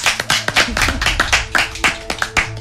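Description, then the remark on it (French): Applause from a small audience for a participant about to play in the evening's game, with distinct claps in a brisk, fairly even rhythm. Moderately loud for a few seconds, with no talking over it. “on peut l'applaudir.”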